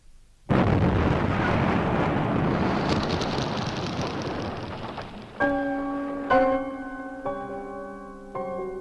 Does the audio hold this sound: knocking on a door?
no